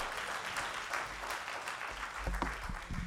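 A church audience claps for Jesus Christ in a dense, steady round of applause, many hands blending into a continuous wash of sharp, crackling claps with low rumbling underneath.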